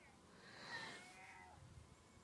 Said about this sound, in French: Ah, des mouettes.